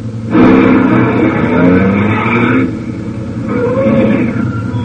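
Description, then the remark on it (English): A truck engine roars in suddenly and loudly as the truck comes around a curve in the road, a low rumbling drone with a steady whine layered over it, easing off for a moment before swelling again. “In fact, we take the one now coming around the curve.”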